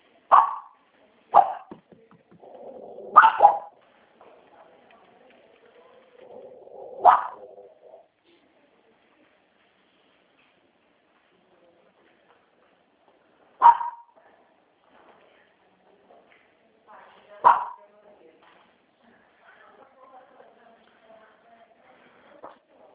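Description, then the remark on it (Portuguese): A dog barks sharply, about six loud barks spread irregularly with pauses between them, while a person talks quietly in the background. “É que o cachorro tá latindo, não tô ouvindo.”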